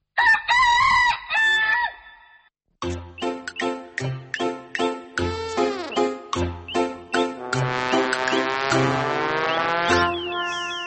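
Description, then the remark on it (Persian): A rooster crows loudly, followed by a rapid series of sharp clucking bursts, then a second long, strained crow. No one speaks. “از پگاه سر کرده تمام مرغ خانه به بهره می براید یا تو لب لوچک به دیگ می درایی؟”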